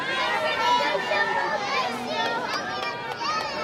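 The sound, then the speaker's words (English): A crowd of children shouts all at once, a dense jumble of high, overlapping voices each yelling their own first name together on a count of three, in a loud, sustained burst that lasts a few seconds. “On the count of 3, just yell your first name.”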